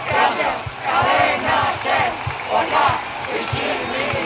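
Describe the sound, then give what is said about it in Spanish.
Hundreds of zombies carrying banners at the door of the Cadena SER radio station, number 32 Gran Vía, chant and shout together "gracias, Cadena SER, por la visibilidad" in rhythmic, swelling waves, with steady low thumps keeping a beat underneath the mass of voices. “Cientos de zombies acaban de acercarse a la puerta de la cadena SER, al número 32 de la Gran Vía.”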